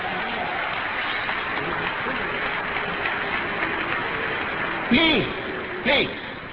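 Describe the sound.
An audience claps in a steady, dense wash of applause that continues throughout, with a couple of short raised voices cutting in near the end.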